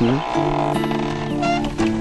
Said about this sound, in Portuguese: A senhora gosta de ouvir esse barulhozinho, os bois passando ali.